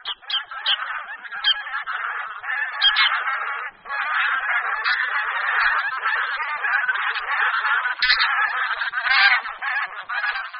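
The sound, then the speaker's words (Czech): A flock of bean geese (Anser fabalis) honks continuously, overlapping nasal two- and three-syllable 'ga-ga' or 'kajak' calls forming a dense, steady chorus that stays fairly loud throughout, with no voices. “Hlas husí polní je poměrně typický a v každém tom projevu je jasně slyšitelné dvou nebo tří slabičné ga, ga anebo kajak.”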